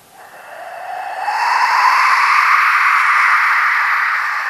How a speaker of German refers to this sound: Denn es ist tatsächlich ein Instrument. Es ist ein Windmacher, ein sogenannter.